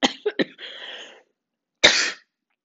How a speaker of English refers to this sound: Think I spoke too loudly and I triggered a coughing and sneezing. Ooh, okay, it's not COVID.